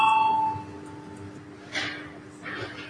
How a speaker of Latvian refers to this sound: Ir pieprasīts balsojums. Lūdzu zvanu.